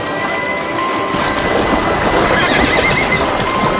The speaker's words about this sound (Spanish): Cada otoño reúnen a los caballos. Separan a los potros castaños de sus madres blancas para ser domesticados y entrenados como animales de trabajo.